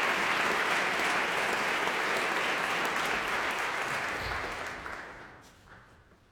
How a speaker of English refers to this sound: And applause now for the tenor Mark Padmore, the forte pianist Christian Bezuidenhout.